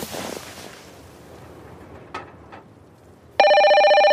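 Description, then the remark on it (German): After a few quiet seconds with a couple of faint thuds, a loud telephone bell suddenly starts ringing at 3 a.m. with a rapid metallic trill and keeps going to the end. “Oh, 3 Uhr morgens. Wer kann das denn sein? Dina, wieso rufst du mich nicht auf dem Handy an?”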